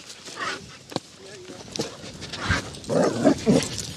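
A dog makes short barks and whimpering noises, with brief sharp yelps scattered through a few seconds and a louder burst of vocalizing near the end, as dogs pass each other on a walk.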